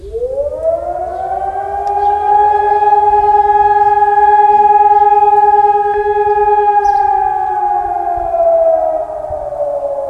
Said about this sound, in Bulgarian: Воят на сирената, приканящ към мълчание в знак на почит.